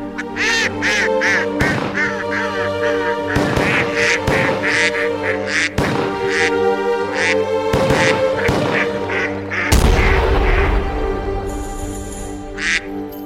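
Mallard duck quacks are arranged into a bouncy holiday classical melody, nasal honks pitched up and down in steady rhythm over a loud, full musical backing with periodic percussive hits and no talking.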